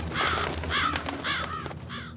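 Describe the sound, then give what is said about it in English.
Crows caw harshly four times in a loose, unhurried sequence over a steady low background rumble with no voices. “It's just birds.”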